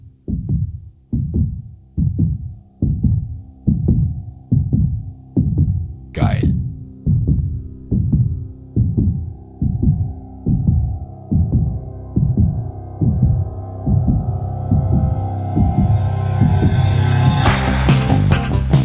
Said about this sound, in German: und das auch deswegen, weil das Lied mit einem Herzschlag beginnt, deswegen muss es sein heute,